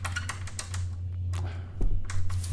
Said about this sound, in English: Door handle just turns.